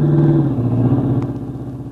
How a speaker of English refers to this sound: Duck, here comes the car.